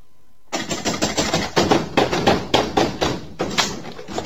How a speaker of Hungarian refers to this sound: Jaj! Segítség! Tolvajok! Betörték az ajtóm!